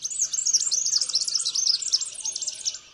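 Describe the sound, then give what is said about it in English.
A red-backed fairy wren in Australia sings a rapid, high-pitched reeling trill of tinkling notes, running continuously for about three seconds before fading out, with no voices. “Mike Webster of the Cornell Lab of Ornithology is studying red-backed fairy wrens in Australia.”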